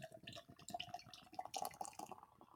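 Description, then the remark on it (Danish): Beer of 5.4% from a blue can pours steadily into a glass at about 45 degrees, a gurgling, splashing liquid stream with bright fizzing bubbles that rises briefly in intensity before easing off. “Og så hælder vi den op.”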